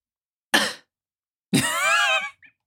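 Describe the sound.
A voice imitates a light cough from someone in an audience: a short, sharp burst followed by a longer, throaty, voiced cough-like sound, fairly loud against silence.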